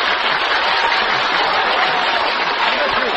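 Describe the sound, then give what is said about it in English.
An audience applauds as a vote for contestant number 3 to break a tie, in a dense, steady wash of clapping that holds at an even, fairly loud level for the whole stretch, with no voices over it. “Your applause only again for number 3”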